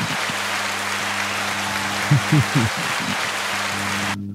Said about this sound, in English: And, you know, it's a token of my appreciation. You know, give y'all a round of applause, you know.